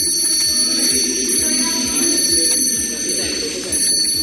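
A small hand bell, the one Italian prime ministers use to mark the start of government meetings, rings steadily for several seconds at the handover ceremony where Giorgia Meloni became prime minister of Italy. It makes a bright, high, continuous jingling over a low murmur of people talking and some clatter.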